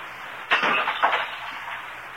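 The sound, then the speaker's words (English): A man deliberately smashes an ornament in a sharp crash, followed half a second later by a second smaller impact, then a brief scatter of fragments fading out. No one speaks. “Did something get broken here, Mr. Craig? Did that ornament fall off the mantelpiece?”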